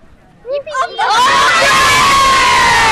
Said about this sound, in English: Will you give one cheer for Clare?